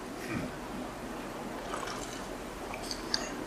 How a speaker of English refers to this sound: I'm going to take a glass of water, a drink of water now, so excuse me. I want to tell you so much, I don't want to stop sipping water.